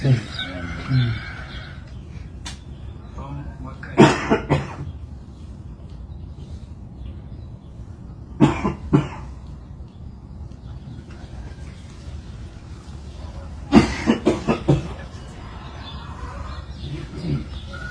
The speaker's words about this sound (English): You can hear the rooster in the back.